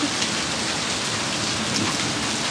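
Heavy summer storm rain and hail pour down in a dense, steady hiss, fairly loud, with no voices and no break in the downpour.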